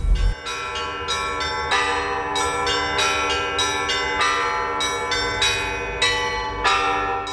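Several church bells are rung in a fast, continuous peal, with strikes every half second or so and their tones overlapping and ringing on. No voices are heard.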